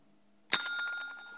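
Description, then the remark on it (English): A bell is struck once, sharply, its bright metallic tone ringing on and slowly fading. No voices accompany it. “Give me the bell, and then we'll really try to”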